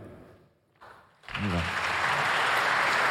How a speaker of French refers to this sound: Il y en a un bon public, ils applaudissent tout le temps. Si vous le trouvez nul, il ne faut pas applaudir, hein, je vous le dis. Mais bon, a priori, ils te trouvent bien.